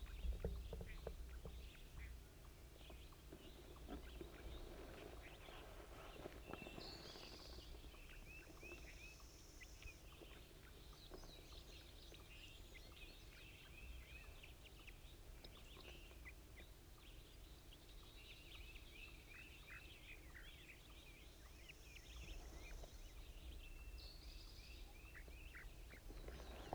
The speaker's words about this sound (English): Actually, I believe it's the wild bird.